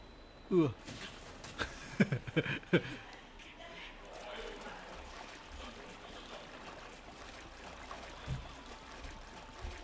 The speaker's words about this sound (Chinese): 冇啊！出面真係大雨到，係啊！